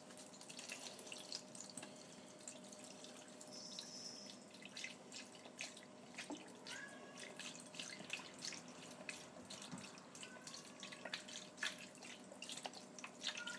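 Liquid beef stock pours steadily from a carton into a roasting pan with potatoes, carrots and chopped celery, a continuous gurgling splash and small bubbly pops for over ten seconds, fairly quiet, with no talking.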